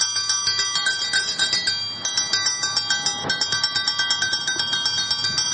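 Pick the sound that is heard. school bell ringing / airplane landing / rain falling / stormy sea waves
school bell ringing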